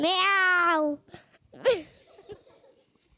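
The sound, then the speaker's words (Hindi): A person imitates a cat's meow with a long, steady, drawn-out nasal tone, followed by a brief higher squeaky vocal sound and some faint breathy noises. “इतने में बिल्ली आ गई,”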